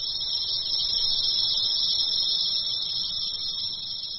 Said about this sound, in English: Once on the treetops, the male cicadas will sing their mating songs to draw the females, and it is loud.